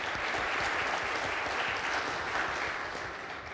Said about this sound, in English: I thank God for this opportunity, for the leaders who prepared this event, but also even those who proposed my name to be among of the participants here. Let's we clap hands for them and give thanks to God.